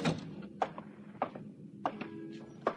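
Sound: door opening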